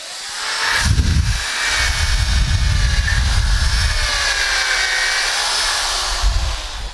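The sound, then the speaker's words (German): A power drill with a 9 mm bit whirs steadily as it bores a hole into wood for an 8 mm dowel, a sustained motor whine with grinding low rumble, starting with a brief burst then running continuously for several seconds, loud, no talking. “Also der Dübel soll nicht locker sitzen, aber ihr werdet gleich sehen, wenn ich einen 9er Bohrer für einen 8er Dübel nehme, dann sitzt der auch fest im Holz.”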